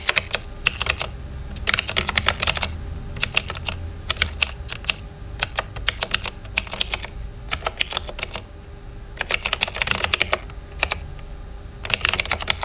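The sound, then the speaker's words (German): Rapid clicking of keys on a computer keyboard, bursts of sharp taps separated by brief pauses, steady and fairly loud, with no voices. “Wenn Sie jetzt noch eine Taste drücken, klingt das Ganze gleich viel besser.”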